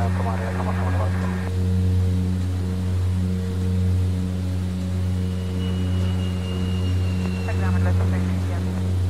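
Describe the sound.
A helicopter drones steadily outside, flying past a window, a constant low, throbbing engine hum that holds at the same level throughout, with brief snatches of voice near the start and the end.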